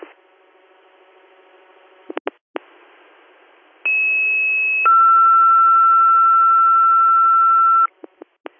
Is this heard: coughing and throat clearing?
no